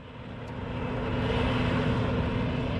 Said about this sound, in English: At Campbelltown in Tasmania's northern Midlands, the harvester is slowly mowing down David Taylor's hemp crop. It's separating the oil-rich seed out of the hemp heads. Now, the crop itself is nearly 2 metres tall, so it's a slow process.